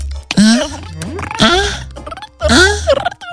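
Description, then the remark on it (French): Three loud pig oinks and grunts in quick succession, each a short nasal squealing burst separated by brief pauses, with no other sounds around them. “C'est un petit cochon ventriloque.”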